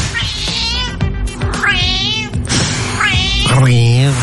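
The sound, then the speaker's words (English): A cat meows loudly in a string of about four drawn-out, bending calls whose rising and falling pitch sounds almost like chattering speech. “who obviously we know the classic in the genre is the Scouse cat.”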